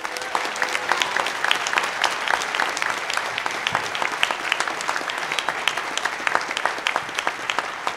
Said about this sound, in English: Please give a round of applause for our panel.